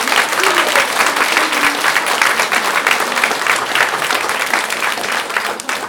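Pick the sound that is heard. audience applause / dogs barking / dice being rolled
audience applause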